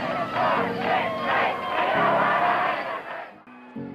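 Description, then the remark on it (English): An angry crowd of protesters rioting at a university against a student's admittance shouts and yells continuously, hurling racially charged threats, many voices overlapping in a loud, dense roar that fades slightly near the end. “Ushered by university officials, she hastily made her way through the crowd of protesters who hurled racially charged threats and debris as she passed.”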